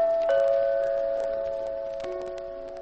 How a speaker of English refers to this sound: Next stop is 6666 Park Avenue, the apartment of Mr. Clark Standish. You stick your finger on the doorbell.